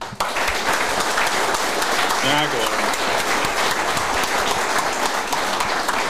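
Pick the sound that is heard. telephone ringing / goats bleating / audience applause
audience applause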